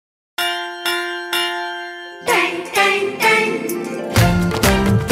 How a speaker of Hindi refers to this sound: सुनो घंटी बजी स्कूल की, चलो स्कूल तुमको पुकारे।